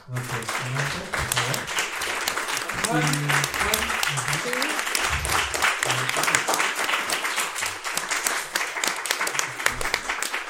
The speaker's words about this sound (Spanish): Bueno, ya para finalizar, pues les pido un fuerte aplauso.